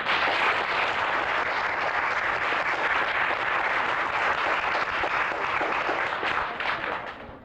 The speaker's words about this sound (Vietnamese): kính xin quý vị hãy cho anh thêm một tràng pháo tay.